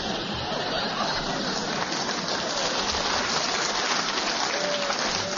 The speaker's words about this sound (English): I think the audience applause endorses the shrewdness of your challenge.